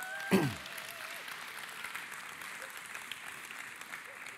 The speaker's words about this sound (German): Gib mal einen fetten Applaus.